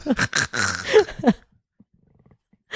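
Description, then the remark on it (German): A person imitates a lion's roar, with a loud, growly voiced burst lasting over a second that rises and falls, then breaks off into near silence. “Sag mal was, ich bin ein Löwe.”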